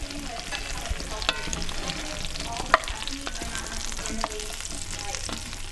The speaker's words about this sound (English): The company's office includes examples of beautifully decorated rooms, as well as a spacious kitchen where it's not unusual to hear the sounds of avocados being chopped or fingerling potatoes sizzling in a Dutch oven.